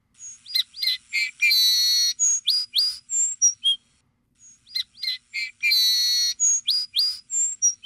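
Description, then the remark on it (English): A song sparrow sings a bright, varied song of quick whistled notes, a buzzy trill and chirps, heard twice in a row with a short pause between, clear with no other sounds. “And this sound here that you're about to hear is from a song sparrow.”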